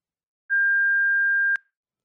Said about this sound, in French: Vous êtes bien sur la boîte vocale de l'Auberge du Lac. Veuillez nous laisser votre message après le bip sonore.